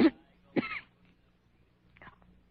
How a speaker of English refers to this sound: Cough hurts.